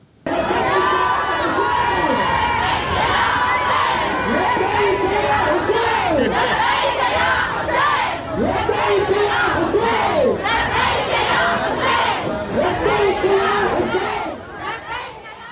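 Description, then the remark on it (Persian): A large crowd of women, without Islamic covering, chants and sings together in a newly opened stadium in Karbala during the opening of the West Asian Games. Loud rising-and-falling shouted phrases repeat over a constant roar of cheering, with no pauses throughout. “اون هم در شرایطی که تازگی‌ها و در جریان گشایش بازی‌های غرب آسیا در شهر کربلا، زنان با آزادی و بدون پوشش اسلامی در ورزشگاه تازه تأسیس این شهر حاضر شدند و حتی آواز هم خواندند.”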